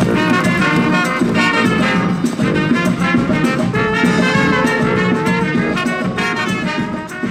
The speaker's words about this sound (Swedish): Det ni hör är … som underhöll de stockholmare som trotsat regnet på Kungsgatan för att fira ett arbete som pågått i cirka 2 år och som nu är klart.